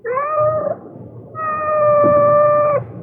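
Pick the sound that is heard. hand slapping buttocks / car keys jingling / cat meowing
cat meowing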